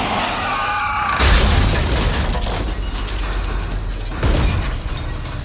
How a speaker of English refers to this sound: Car sideswiped us. Ran us off the road. He kept going. He? Guy in a pickup truck.